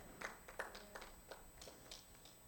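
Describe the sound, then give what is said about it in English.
A few scattered, quiet claps from an audience, about seven sharp hand smacks spaced at a loose, fairly steady pace, with no one talking over them. “I'm cool on y'all claps.”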